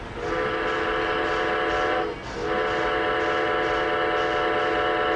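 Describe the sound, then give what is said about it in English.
A Lionel standard-gauge toy electric train, a 1930 model of the Blue Cromet, sounds a steady, sustained whistle, a bright multi-tone blast that breaks briefly near the middle and then resumes. It is loud, with no talking. “And Lionel made a model of that train in 1930, and this is one of them.”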